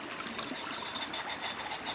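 Water of the Crécoise creek flows steadily and strikes its bank, a dense, bright hiss of trickling and lapping with a faint cymbal-like shimmer running through it, no voices present.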